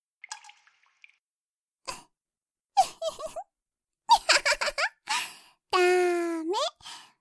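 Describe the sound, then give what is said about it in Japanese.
A voice imitates dripping liquid with a string of short, squeaky, high-pitched bursts. They come in quick uneven clusters and end on a longer gliding squeal, fairly loud. “3、2、1、ポタポタ、ポタポタ。”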